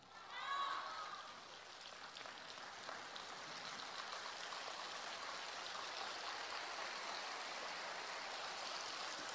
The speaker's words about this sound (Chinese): 这个掌声有点像下毛毛雨一样的，以后你们知道了啊，以后我假装从上面看，就是这个雨怎么下不下来，你们就使劲鼓掌。